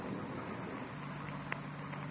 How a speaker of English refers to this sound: Outside, it started to thunder. Rain's starting, man. Windy.